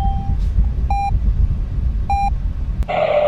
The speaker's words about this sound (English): Your TCAS goes off. Beep. Beep.